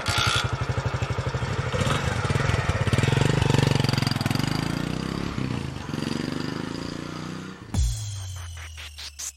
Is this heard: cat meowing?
no